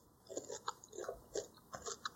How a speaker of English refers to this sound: I can eat my Reese's Pieces in peace. I mean, it doesn't matter now. You're crunching the entire time. The Reese's Pieces. The entire time.